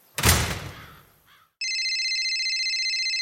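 A door slams shut with a loud thud, then after a brief pause a cell phone starts ringing with an incoming call, its steady electronic ringtone pulsing continuously and fairly loud.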